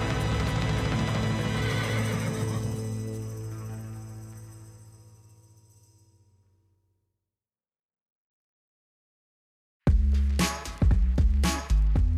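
A loud, drawn-out horse neigh that fades away, then a short silence before several sharp hoof clops ring out. No talking.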